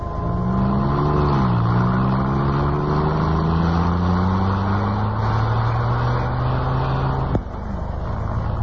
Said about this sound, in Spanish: El chofer uniformado puso el auto en marcha. Este se deslizó suavemente por la soleada calle.